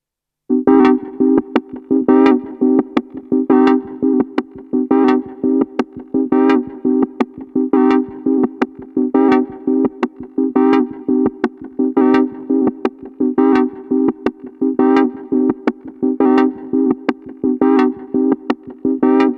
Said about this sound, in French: Je propose qu'on s'écoute du coup un premier extrait de ton deuxième album, donc.